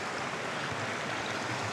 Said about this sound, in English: Wow, water's so high. Could barely cross. Thankful for the people who have laid the rocks.